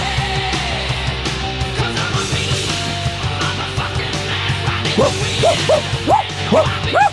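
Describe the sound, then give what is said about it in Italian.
A neighbours' dog barks repeatedly, a quick series of sharp, rising yelps toward the end, over a dense, busy background of clattering noise. “Il cane dei vicini abbaia in continuazione tutti i giorni.”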